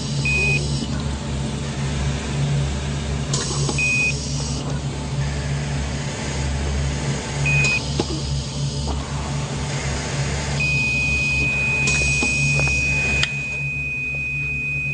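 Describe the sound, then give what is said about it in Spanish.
A heart monitor gives three short, evenly spaced beeps, then sounds one long unbroken tone, all over a steady low mechanical hum and faint hiss. No one speaks. It is the heart monitor of Fernando Peña, lying on a stretcher connected to cables and oxygen. “Él estaba postrado en una camilla, lleno de cables y con oxígeno. El bip del corazón sonaba.”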